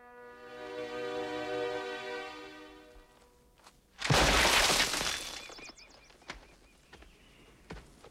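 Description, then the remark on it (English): A rock smashes hard against a boulder nearby on a rocky slope in one sudden, loud crash, followed by scattered clattering bits of debris, after a steady droning hum fades out. “Suddenly, a rock smashes against a boulder nearby.”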